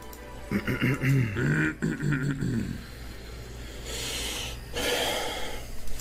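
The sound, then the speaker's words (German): A short voiced grumble gives way to two long, breathy huffs pushed hard through the nose, fairly loud, like an exasperated snort of annoyance. “Auch dieses genervte Schnaufen so.”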